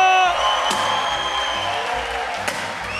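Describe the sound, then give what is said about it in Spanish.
At the close of a live show, a crowd bursts into sustained farewell applause with cheering and whoops, a dense steady wash of clapping that stays loud throughout, with a couple of sharp louder claps standing out. “Despidamos esta hueá de un fuerte aplauso, por favor, a mi gran amigo,”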